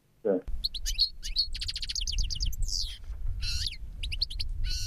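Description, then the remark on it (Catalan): A European goldfinch sings a rapid, tinkling run of bright twittering notes and trills, continuous, with a low rumbling background beneath. “Això és una cadernera.”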